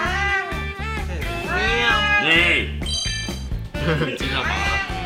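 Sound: cat meowing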